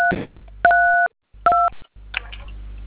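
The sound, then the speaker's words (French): Two clear telephone keypad tones from phone keys pressed during a call with MTN, each a steady dual-pitched beep lasting under half a second, separated by short pauses amid faint line noise and clicks. “Arrêtez de MTN manipuler la touche du téléphone, monsieur, s'il vous plaît.”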